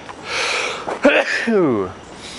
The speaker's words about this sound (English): That was a nice sunlight sneeze. I always get those. Bright lights make me sneeze. It's weird.